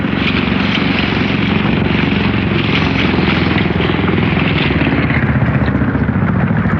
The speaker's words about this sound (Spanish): El hombre increíble sonríe sereno observando a la lancha que avanza hacia ellos. Solín y Sacha, desfallecidos después de un día y medio abandonados en el mar, permanecen tirados sobre el ala del avión destrozado, viendo que el rescate llega a ellos.